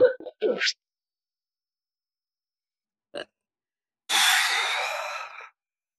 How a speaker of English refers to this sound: That's the yawning.